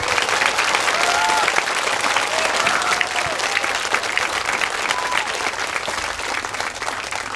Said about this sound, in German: Und wir haben hier viele Leute vor uns sitzen und ich glaube, wir haben vorher gesagt, die sollen nicht ganz so laut sein, damit ihr uns da an den Endgeräten auch versteht. Aber einen Applaus nehmen wir, glaube ich, mit für den Anfang, oder?